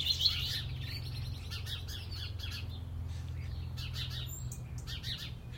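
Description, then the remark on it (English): Three or four robins sing and call at once one morning in a garden with a laurel bush, in courting mode with males chasing females. Bright overlapping chirps and warbling phrases come in bursts over a steady low background hum. “There's a lot, hell of a lot going on this morning with the robins.”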